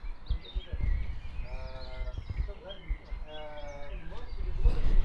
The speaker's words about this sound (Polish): Teraz, proszę Państwa, jestem na balkonie, ale nie jestem skierowany na wprost mikrofonu. Mikrofon skierowałem za balkon, bo akurat ptaki dały, czy też nagra fajnego. Generalnie rzadko się zdarzy, żeby tak się dało nagrać.